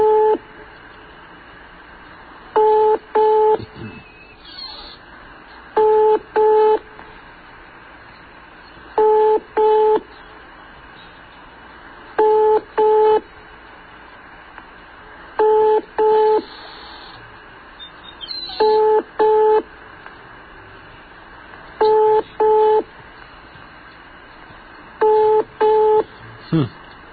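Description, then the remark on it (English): A telephone ringing tone repeats as steady double beeps, two short mid-pitched bursts every few seconds, eight pairs in all over a faint background hiss. “Let's give it three more of those funny rings.”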